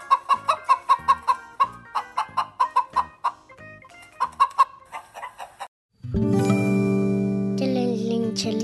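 A hen clucks in a quick, rhythmic series of short bursts for several seconds, then a steady, droning tone takes over after a brief pause.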